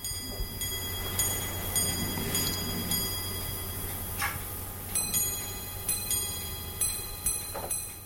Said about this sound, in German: Die Sonnerie von Kaliber 17, das Geläut der kompliziertesten Armbanduhr der Welt.